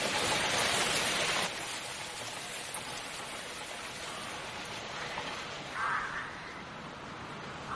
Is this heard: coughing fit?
no